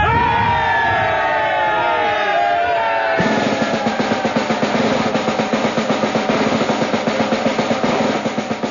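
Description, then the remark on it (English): A large crowd of men, soldiers of the Enniskillens, roars a loud, sustained hurrah of many overlapping voices as a sergeant raises a newly captured French eagle, then breaks into a rhythmic, repeated chant with pulsing, regular beats. “But then, as they passed General Lambert, the sergeant raised high a newly captured French eagle, and a great hurrah went up from the Enniskillens.”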